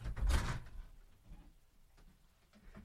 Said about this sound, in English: I'll lock the door now.